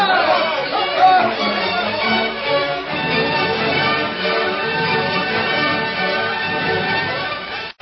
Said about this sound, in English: Angry crowd marched to courthouse.